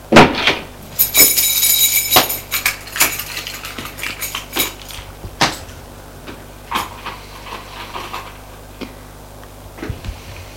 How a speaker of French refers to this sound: Il est entré dans une allée d'un vieil immeuble. Monte jusqu'au premier. Là, il ouvre une porte d'appartement.